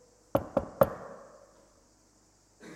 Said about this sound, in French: Il se tient dehors, il frappe à la porte.